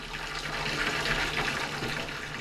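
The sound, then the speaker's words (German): Steaming tap water gushes steadily into a bathtub, a continuous hissing rush with a faint low hum beneath it and no voices. “Sie ging zur Wanne und drehte den Hahn auf. Das Wasser rauschte dampfend in die Wanne.”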